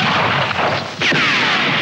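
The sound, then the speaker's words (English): A loud, dense burst of gunshots in a Batman story record, in which Batman is shot, fills the moment with harsh, crackling noise. There is a brief dip in the middle before another sharp crack, and the barrage continues without any voices. “Bang, bang! He shot me down.”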